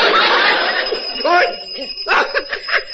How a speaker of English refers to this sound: Somebody got their finger on the doorbell.